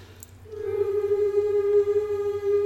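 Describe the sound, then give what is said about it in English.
A singer hums a single vocal warm-up start note that begins after a brief quiet moment and holds steady at one mid pitch, rich in overtones, with a faint low drone underneath throughout. “So how do we set up that hum, that beautiful hum?”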